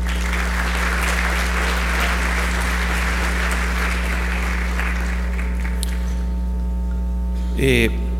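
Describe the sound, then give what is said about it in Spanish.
Steady audience applause welcoming the next speaker at a talk on basic infrastructure for human development, a dense wash of clapping that holds for about five seconds and then fades, leaving a low hum and a brief rising squeal near the end. “Lo vamos a recibir con un caluroso aplauso, por favor.”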